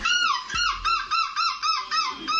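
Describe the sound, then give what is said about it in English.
A man imitates a seagull's screech with a rapid run of about eight high, nasal, harmonic cries in a steady rhythm, loud and unbroken by any talking. “screech like a seagull”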